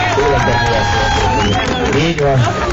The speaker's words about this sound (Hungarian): Na azért, akinek tetszett, az egy nagy tapsot nyomhatunk neki.